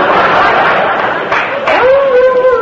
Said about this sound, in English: Well, what's that? Oh, good heavens, that's my dog team. Well, I gotta go now. I gotta feed my huskies some Wheaties and mush.